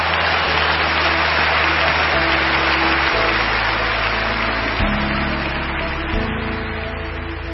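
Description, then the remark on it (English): Loud, sustained applause from a large audience after a message by David Ring, a dense continuous roar of clapping that holds steady for several seconds with no voices rising above it. “Thunderous applause.”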